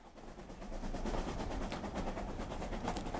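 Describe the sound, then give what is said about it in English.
A train from Sydney rolls steadily along the rails, a continuous loud rumble with a rhythmic clickety-clack of wheels over track joints, no voices. “According to the timetable, the train from Sydney arrives at 2:15.”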